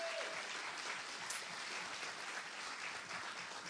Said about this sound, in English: Again, give these guys a big round of applause all the way from Nepal.